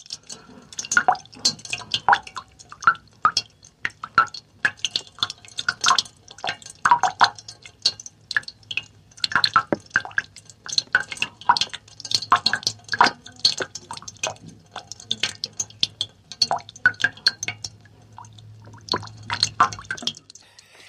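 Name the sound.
water dripping and trickling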